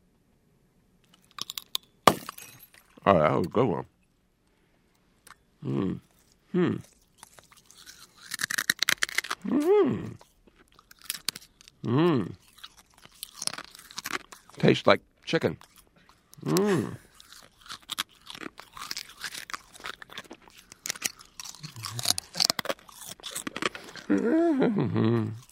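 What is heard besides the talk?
crunching and chewing glass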